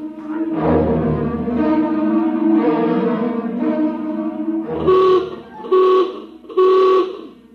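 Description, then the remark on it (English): A ship's general alarm blares: a long, wavering low horn-like tone, followed by three short, loud, evenly spaced blasts. “General alarm. Emergency stations.”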